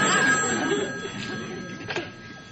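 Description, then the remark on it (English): A telephone rings with a steady, bright metallic tone held throughout, over a soft hiss of background noise. “I told you I ain't expecting no phone call. I'll get that.”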